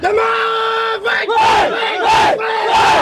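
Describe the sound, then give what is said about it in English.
A baseball team in Myanmar chants cheers in unison, loud rhythmic group shouts rising and falling in about three sustained bursts with brief pauses between them. “Like the language that they use and the cheers that they do.”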